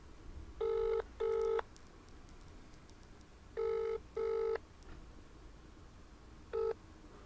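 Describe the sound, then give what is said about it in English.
A phone ringing tone over a speakerphone while calling someone back: two pairs of short, buzzy double rings separated by a pause, then the start of a third, clear against low background hiss with no talking. “Oh, it's Oh ringing.”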